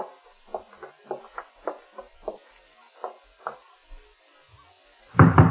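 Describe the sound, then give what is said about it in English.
Firm, sharp, stern knocking on the door of a ground-floor rear apartment down a hall, about a dozen raps in quick uneven clusters with brief pauses, followed by a sudden louder burst of sound at the very end. “Oh, the way you knock gives me the shakes, Nick.”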